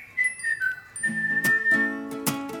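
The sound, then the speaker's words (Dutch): A short jingle: a bright whistled melody slides across a few notes, then crisp percussive hits and chiming tones join for a quick, upbeat flourish. “Wacht, dan doe ik even zo'n fluitje tussendoor.”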